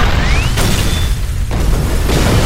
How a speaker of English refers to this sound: The APC rocked violently from side to side from the concussions of the explosions as the dynamite charges in the coffee cans detonated slightly out of sequence.